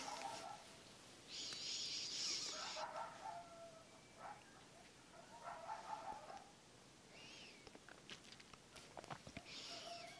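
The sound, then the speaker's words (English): Coyotes call at night in a series of high, wavering yips and howls that rise and break off, several voices overlapping in bursts, fairly faint, with no one talking. “So tonight we have coyotes.”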